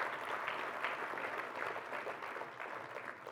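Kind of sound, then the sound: crowd, audience applauding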